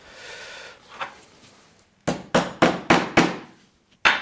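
A phone screen is used to hammer a large, sharp-tipped nail into a wooden board: five sharp, hard knocks in a quick, steady rhythm, a short pause, then one final strike, with no talking.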